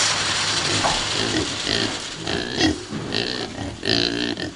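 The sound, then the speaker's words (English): A crowd of about 100 pigs, fed on bad soybeans and kept next door to a soybean trader's small workshop, grunts and oinks continuously, with overlapping squeals and snorts forming a dense, noisy farmyard din. “The bad soybeans are fed to about 100 pigs, which soybean trader Li Sipin keeps next door to his little workshop.”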